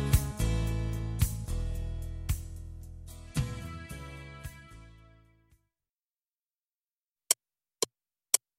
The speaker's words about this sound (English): Hear that? That tick-tock, tick-tock of a clock that stalks your time, runs out, tick-tock, tick-tock.